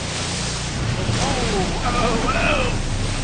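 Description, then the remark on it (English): Steady, rough wash of open-sea waves and wind in the ocean off the coast of South Korea, a constant churning roar with faint, indistinct voices briefly surfacing beneath it. “Been bobbing around in the ocean off Korea for approximately 7 hours now.”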